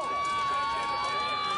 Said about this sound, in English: Crowd getting animated.